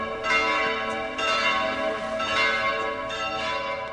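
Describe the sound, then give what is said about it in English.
Church bells ring out over Piazza del Plebiscito in Naples, Italy, in a dense, overlapping peal, bright metallic tones layering and sustaining continuously, with fresh strikes swelling every second or so, as a crowd of many faiths gathers to sign an appeal for peace. “After praying in different locations around the square, bells rang out as this multicoloured crowd of Christians, Muslims, Jews, Buddhists and Hindus gathered together to sign an appeal for peace”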